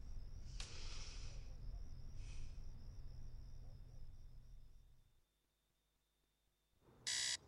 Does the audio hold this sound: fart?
no